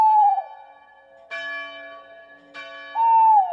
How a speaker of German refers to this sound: Beim Ruf des Waldkauzes, den man hierzulande öfter hören kann, kriegen die Kinder fast ein bisschen Gänsehaut.